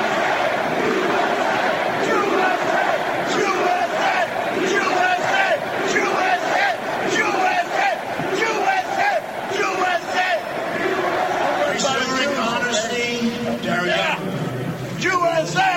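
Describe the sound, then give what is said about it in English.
A loud crowd chants "USA" together in rhythmic, shouted bursts, many voices overlapping steadily for the whole stretch, with a man yelling "J-E-W" among a few louder individual yells rising above the mass near the end. “What you heard was that man yelling the words USA, J-E-W, when they were chanting USA.”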